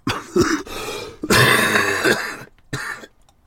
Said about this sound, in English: That's why you're going to hear a lot of that during this. If you don't like coughing and you don't like snuffling sounds